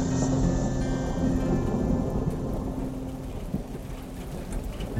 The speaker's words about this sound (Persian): دوباره باران گرفت. باران معشوقه من است.